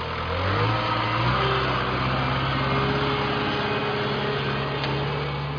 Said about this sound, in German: Bernhard Berger schleppt mit dem Traktor einen Wohnwagen nach dem anderen aus der Uferwiese.